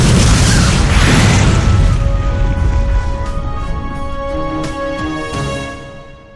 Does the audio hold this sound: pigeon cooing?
no